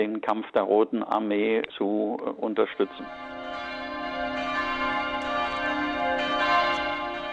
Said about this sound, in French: Aujourd'hui, les cloches de la Frauenkirche retentissent de nouveau.